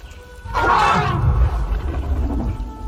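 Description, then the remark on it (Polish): A female elephant trumpets once, a loud, brassy blast lasting under a second, then trails off into a low, rough rumble that lingers. “To jest słoń!”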